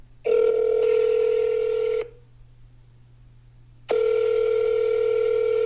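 A phone line ringing out after a number is dialed: two long, steady electronic ring tones separated by a silent gap of about two seconds, clear, with no voices.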